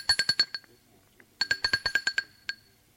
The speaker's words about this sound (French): Puis, tremblant, il sonne à la porte de l'appartement.